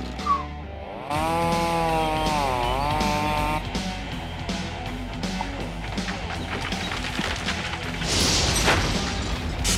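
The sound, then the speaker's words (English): A chainsaw roars to life after a brief pull, its engine whining and dipping in pitch as it cuts low through a tree trunk to take off all the branches at once, running loud for several seconds with rising grinding noise near the end. “Yeah, this chainsaw kicks ass.”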